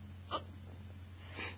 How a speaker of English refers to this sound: My hiccups love you, I guess. I'm just gonna make a recording, just because I can, and I still have hiccups.